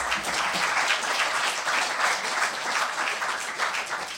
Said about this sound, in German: Also auch mal einen ganz herzlichen Applaus daran.